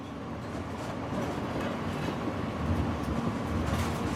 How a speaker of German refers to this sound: Und was bleibt, ist das monotone Rauschen des Zuges.